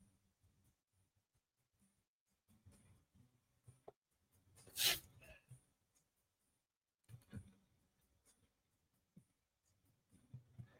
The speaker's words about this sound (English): Just typing something into my little thing right here.